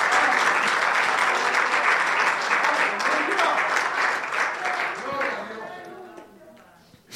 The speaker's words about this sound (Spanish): Se atreve a darse un aplauso en esta noche. Ese es para usted, para usted.